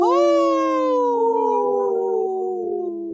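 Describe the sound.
Three people on the Native Roots Radio show howl like wolves together for Minnesota's wolves in a loud, sustained, wavering cry that holds for about three seconds and slowly falls in pitch, their voices blending in imitation of a wolf pack.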